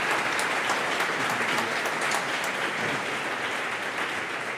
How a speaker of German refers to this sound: Gut, dann bedanken wir uns trotzdem bei Herrn Leidinger mit einem Applaus, weil er wird den Podcast ja bestimmt irgendwann nochmal nachhören.